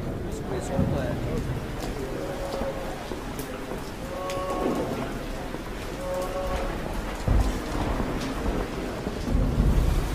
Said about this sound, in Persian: محوطه بیمارستان. بارون شدید میاد.